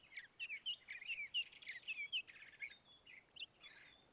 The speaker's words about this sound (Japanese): ほら、お耳を澄ませてみてください。ええ、泣いているのは七色ハチドリですね。幸せを運ぶと言われているこの森でしか見ることのできない小鳥です。